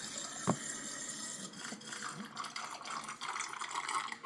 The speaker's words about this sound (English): Whoa. That does sound like a water bong.